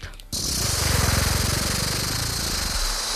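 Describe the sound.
A voice imitates a rattlesnake's rattle with a loud, steady, rapid buzzing hiss that starts abruptly and holds for about three seconds without pause.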